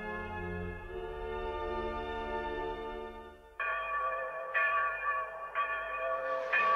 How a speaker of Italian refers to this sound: Senti le campane, Rita? Affrettiamo il passo, non voglio arrivare quando la messa è già cominciata.